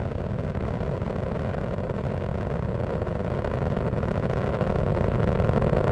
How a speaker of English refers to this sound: Engines throttling down as Atlantis prepares to maneuver through the area of maximum dynamic pressure on the vehicle in the lower atmosphere. Already 7 miles away from the Kennedy Space Center at an altitude of 5 miles.